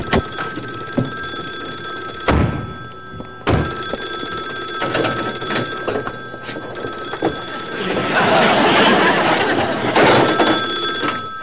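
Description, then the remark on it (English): A telephone bell in a knocked-over phone booth rings continuously throughout, a bright sustained ringing set against heavy thuds and clattering knocks, with a rumbling, noisy commotion swelling toward the end. “The phone's still working!”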